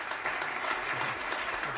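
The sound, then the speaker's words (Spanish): Steady applause fills a locker room, a dense wash of many hands clapping at once without pause, moderately loud and even throughout, with no clear voices above it. “Antes, en este vestuario, se escuchaban muchos aplausos.”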